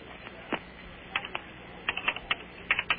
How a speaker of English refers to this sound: Oh, she's getting frustrated. Hear how hard she's banging those keys?